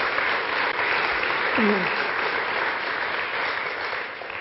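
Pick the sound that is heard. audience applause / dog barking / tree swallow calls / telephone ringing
audience applause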